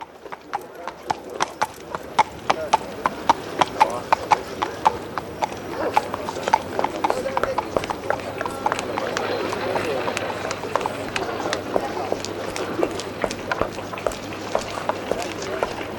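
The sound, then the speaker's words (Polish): Rapid clip-clop of horse hooves on cobblestones fills a busy street scene on Nalewki Street in Warsaw, steady, with a murmur of background activity and voices throughout. “Rodzina Bondarzewskich mieszkała przy tętniącej życiem ulicy Nalewki”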